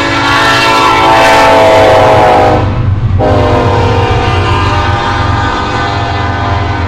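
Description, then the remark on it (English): A loud train horn blares in long sustained blasts while a heavy coal train rumbles and clatters past nearby at a train crossing, the horn cutting off briefly before sounding again over the steady rolling rumble. “That's a coal train.”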